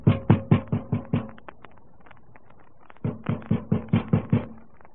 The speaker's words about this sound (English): Oh, wait till I bang on the door to make sure.